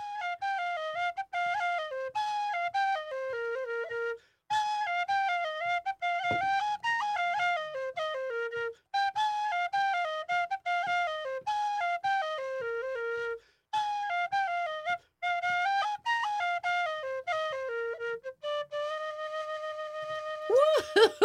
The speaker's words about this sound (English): this wonderful Irish whistle that you're listening to is coming to you live from our studio